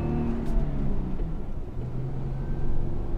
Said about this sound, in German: Doch meist treibt Jochen den Jeep die Dünenhänge hoch und runter, fährt sich auch mal fest im tiefen Sand.